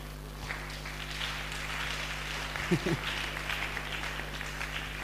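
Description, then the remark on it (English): An audience claps for the prophet steadily for about five seconds, a dense, even patter of many hands over a low constant hum, with a brief voiced sound rising partway through. “Clap for the prophet.”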